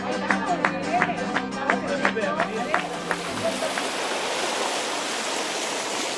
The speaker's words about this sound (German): Die Wellen schlagen an den Strand, der Himmel ist wolkenlos, schon am Vormittag sind es 30 Grad. Wir sind in Matalascañas, 15 Kilometer von El Rocío entfernt, an der Küste.